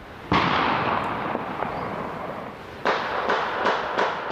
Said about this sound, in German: Ja, da wird ordentlich geknallt und zwar mit echten Gewehren am Ostersonntag. Da wird morgens nach dem Hochamt in die Luft geschossen.